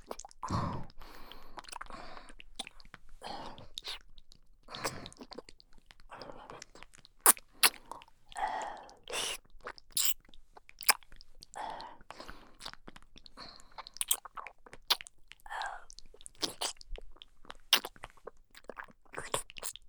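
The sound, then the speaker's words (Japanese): Wet ear-licking mouth sounds: irregular smacks, slurps and sticky clicks at a soft, steady level, with faint breathy noise between them and no clear speech. “耳なめも忘れてないよ。”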